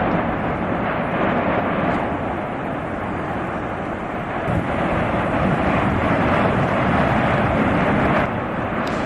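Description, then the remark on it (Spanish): A constant, deep roar of the volcanic eruption at Cabeza de Vaca on the island of La Palma fills the whole clip, a dense rumbling wall of noise with no pauses, steady loudness and faint crackling texture throughout. “Bueno, pues finalmente la Tierra se abría en la zona de Cabeza de Vaca y comenzaba un sonido que seguro que aún recuerdan los 84.000 palmeros en la isla.”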